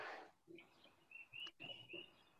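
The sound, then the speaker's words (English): Birds chirping outdoors in quick, repeated high-pitched calls, fairly faint, with a soft background hiss and no one talking. “Do you hear the birds out there? Yeah, I hear the birds.”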